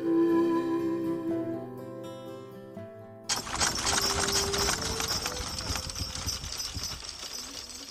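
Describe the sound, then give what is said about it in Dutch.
Sustained tonal notes play for a few seconds, then give way abruptly to a steady, fairly loud clip-clop of a horse-drawn coach's hooves over a broad, rattling rumble, as the coach drives passengers out of the town. “Op een dag liet de deken een koets voorrijden.”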